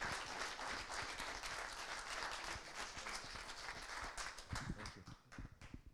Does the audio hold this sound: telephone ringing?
no